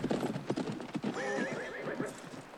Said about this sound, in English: her horse balks at a second tree.